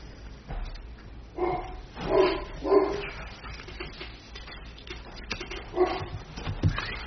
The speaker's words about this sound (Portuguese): Pô, minha cachorra está histérica hoje, não sei o que viu, né?